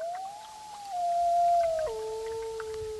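A gray wolf pacing the bank of the Rupert River on a hazy morning howls in one long, sustained tone that rises slightly, holds steady, then steps down to a lower pitch near the end. It sounds alone.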